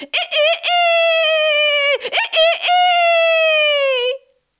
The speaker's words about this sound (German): Bald darauf kamen sie an einem Bauernhof vorbei, und an dem Tore, da saß ein Hahn und krähte aus Leibeskräften.